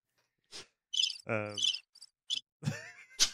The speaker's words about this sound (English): Crickets on your soundboard. My thumb was on sounding the board. Cricket sound effect I've ever heard. My thumb was accidentally pressing the soundboard button.